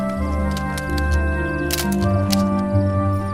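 A camera shutter snaps a few quick, crisp clicks, taking a photo of a person on a horse, set against a steady low mechanical hum with no one speaking.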